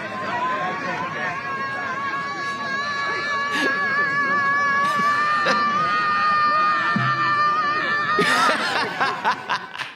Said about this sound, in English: Now they are gathering to scream at a sky where there is no God, presumably.